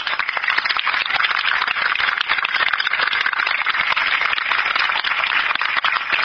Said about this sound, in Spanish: Les pido que ahí sí aplaudan.